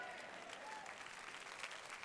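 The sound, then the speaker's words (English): Steady applause from an audience, a dense, even wash of many hands clapping at once that holds at a constant level for about two seconds, with no voices standing out. “No, I don't want you to clap.”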